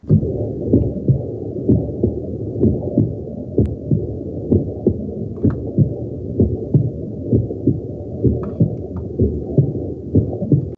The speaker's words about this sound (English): A heartbeat. Sounds like a heartbeat to me. Yeah, good. Sounds yes, like an ultrasound. See, you guys are thinking like overthinking it. Yeah, that's right. It's a heartbeat. Way simple. Yeah. So it's the sound of heartbeat and blood flow.